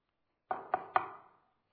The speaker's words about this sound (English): Although, if you remember, in chapter 3, he stands on the outside knocking.